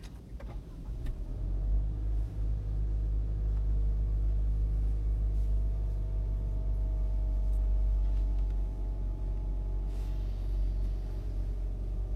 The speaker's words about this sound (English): All right. Okay, let's do a car. Let's do a car driving.